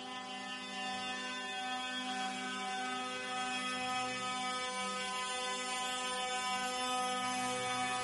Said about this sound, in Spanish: El sonido, insistimos, de la pitada de camiones que ha transcurrido por el centro de la ciudad.